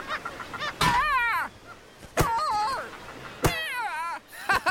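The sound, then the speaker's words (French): Northern gannets calling from a colony: loud, wavering, throaty cries come in three or four overlapping bursts, with a steady background chatter of other birds and no talking. “la Grande Hermine arrive à un endroit qui s'appelle les Rochers aux oiseaux, plein de fous de bassin.”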